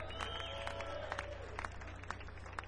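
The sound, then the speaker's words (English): An audience applauds, with scattered, irregular claps over a steady crowd murmur and a few brief cheers. The clapping stays fairly soft and even throughout, with no clear speech. “Give him a nice round of applause for doing that.”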